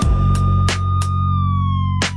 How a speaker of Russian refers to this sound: Где-то вдалеке уже сирена слышна, машина ДПС на горизонте видна.